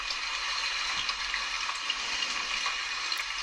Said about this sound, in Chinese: 感觉这个雨声在耳边一直哗啦啦的，更困了，好想睡一觉。